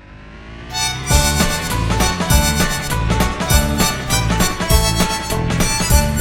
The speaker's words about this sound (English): A car!